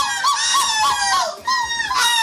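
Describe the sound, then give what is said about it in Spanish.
People imitate a monkey and a seagull, one in Estepona and the other in Gibraltar, with loud, shrill, strongly pitched calls: a run of quick wavering whoops, a short break, then more squawking cries. No ordinary speech. “Claro, es que uno estaba en Estepona y el otro estaba en Gibraltar. O sea, el mono y la gaviota.”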